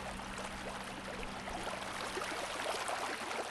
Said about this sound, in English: Irrigation ditches are full of water again.